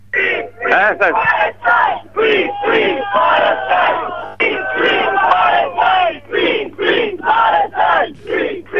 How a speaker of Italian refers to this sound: Siamo 75 persone, hanno portato il cuore oltre questa... questo confine infame, come dire, e ci sono un sacco di persone qua dall'altra parte, è incredibile, ecco, sentite le urla, le visioni. Fateci sentire l'atmosfera.